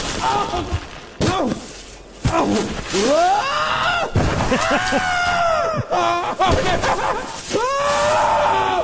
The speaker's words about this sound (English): Screaming. Oh, yeah. In stereo.